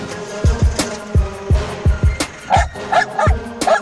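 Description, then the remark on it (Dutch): Patron, a small Ukrainian dog that sniffs out mines and explosives, barks in a rapid series of sharp, high yaps, about a dozen in quick succession, loud, with no one speaking. “Dit is Patron, een Oekraïense hond die mijnen en explosieven kan ruiken.”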